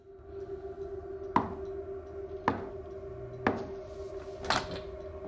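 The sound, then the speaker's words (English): Four deliberate knocks on a door by a woman, evenly spaced about a second apart, each a sharp, solid rap over a steady low background hum, with no talking. “She walks over to a door, pauses, then knocks very deliberately.”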